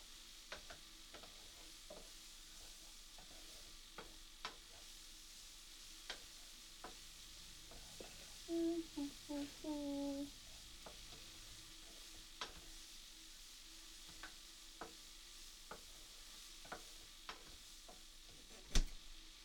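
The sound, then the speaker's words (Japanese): Food sizzles steadily as it grills in a hot pan, a continuous hiss dotted with sharp pops, with a brief squeaky scrape of a utensil midway. No one speaks. “焼けたね。”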